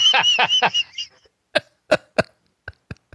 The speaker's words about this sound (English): Hang on a second while I lick my fingers.